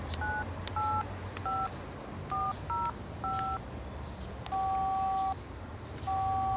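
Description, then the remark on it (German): A rapid run of short mobile phone keypad beeps, about eight dual-tone presses, is followed by two longer ringing tones as a woman calls her brother on a borrowed mobile phone. The sounds are fairly loud over a low, steady background rumble, with no talking. “Tina will ihren Bruder auch nur ganz kurz anrufen.”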